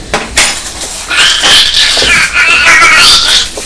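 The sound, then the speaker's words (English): A voice imitates a train starting up with a high, wavering, whining tone that slides up and down for a couple of seconds, after a few brief clicks and clatters. “Is that the noise that the train makes when it's starting up? When it's setting off?”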